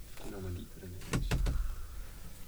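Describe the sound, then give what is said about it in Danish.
A brief bit of talking, then a door is pushed shut with a few quick clunks and rattles of the latch, followed by quiet background noise. “Har du lukket døren herude? Ja, den har jeg.”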